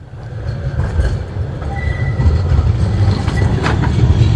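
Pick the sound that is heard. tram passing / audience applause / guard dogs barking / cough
tram passing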